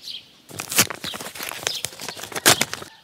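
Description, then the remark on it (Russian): A run of footsteps walking at a steady pace, pacing out steps to the right and straight ahead while following an old treasure map, each step a crisp scuff or tap, continuing for a couple of seconds before stopping. “Так, 5 шагов направо, 10 прямо.”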